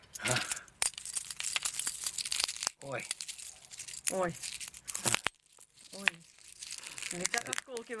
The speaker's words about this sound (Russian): Стекло щелкает. Нежная девичья ручка, да, значит. Да. Хрустит стекло, ломаясь, да, в нежных, боже, девичьих, боже, руках. Боже мой. Оно становится все, да, мельче, все мельче и мельче. Просто пыль.